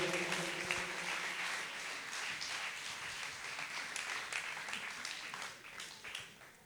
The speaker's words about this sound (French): Maximum d'applaudissements pour elles, s'il vous plaît.